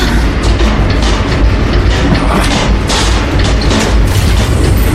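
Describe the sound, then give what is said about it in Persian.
A loud, steady train rumble fills the whole stretch, deep and heavy with a faint rhythmic clatter of wheels on rails, continuous with no voices. “زیر قطاره. اون زیر قطاره”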